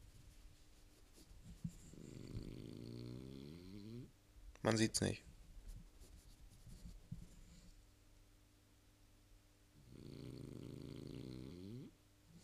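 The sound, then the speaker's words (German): Recorded snoring: two long, rumbling snores, one early and one near the end, separated by a long irregular pause in breathing broken by a sharp, noisy snort. A voice speaks briefly and quietly in between. “mal selber gemerkt, als ich jetzt gehört habe, dass da die Atmung zwischen den Schnarchern manchmal sehr aussätzig ist.”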